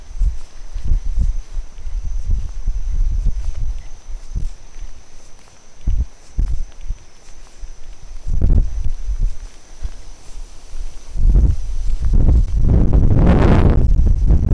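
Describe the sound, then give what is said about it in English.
Gusts of wind in a summer rainstorm with little rain rumble and buffet in uneven bursts, with scattered thuds and rustling between them and a strong, hissing surge near the end. No one speaks. “Just a summer rainstorm. And it's not even raining that much, just the occasional gust of wind.”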